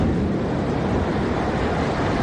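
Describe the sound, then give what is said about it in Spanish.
A loud, steady roar of the flooded Benamargosa river rushing at full force through the village of Benamargosa in the Axarquía, Málaga province, Spain, during flooding. A dense, continuous wash of churning brown water carrying reeds and debris, with no voices, filling the whole short stretch. “Ese estruendo que escuchas es el río Benamargosa desbordado, bajando con mucha fuerza por el pueblo, anegando todo a su paso, anegándolo de agua de un denso color marrón, arrastrando también cañas y todo tipo de restos de residuos.”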